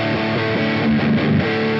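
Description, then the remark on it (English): A distorted electric guitar on a pedalboard preset set to regular distortion plays a short sustained chord with gritty, saturated tone, steady and fairly loud, ringing alone without any voices. “Here's regular distortion.”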